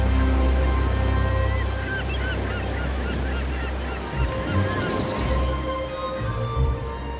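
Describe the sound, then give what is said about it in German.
Waves break and wash steadily against the bow of the ship Nautilus at sunrise, under a deep, constant rumble, while seabirds honk and call repeatedly above the water noise. No one speaks. “Wellen brachen sich am Bug der Nautilus.”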